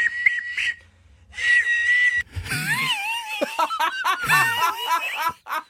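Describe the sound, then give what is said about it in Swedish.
A person makes high, steady whistle-like tones from the throat, first in short bursts, then wavering pitches mixed with giggling and laughter. “Ja, men alltså det han gör är alltså att vissla med halsen.”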